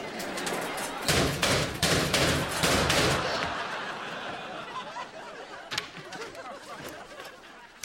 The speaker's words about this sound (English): Why were you just slamming those lockers? I wasn't.